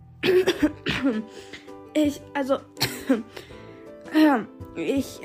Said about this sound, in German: Mir blieb das Brot im Hals stecken. Hustend versuchte ich, mir eine glaubwürdige Entschuldigung auszudenken.